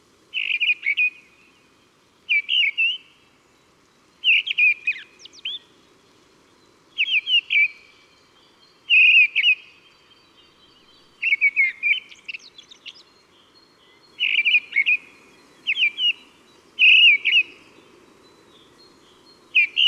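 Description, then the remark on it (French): A mistle thrush sings short, fluty phrases, roughly ten brief strophes separated by regular pauses of a second or two, clear with no other sounds around it. “Un chant sonore, mélodieux, en courte strophe, qui pourrait rappeler celui du merle, mais en plus simple, moins varié, presque monotone.”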